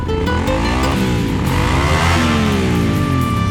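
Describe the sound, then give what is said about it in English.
A motorcycle engine revs loudly, its pitch climbing and falling in sweeping waves as the throttle is worked, with no talking over it. “Don't horse around when it comes to motorcycle safety.”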